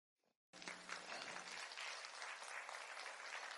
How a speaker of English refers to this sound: And if he can do it through me, just think what he can do through you, as great as you are. Give God a hand clap.